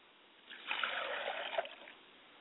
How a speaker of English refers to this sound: As we release those souls into the atmosphere, we pour libations to the east and we say, Ashe. We pour libation to the west and we say, Ashe.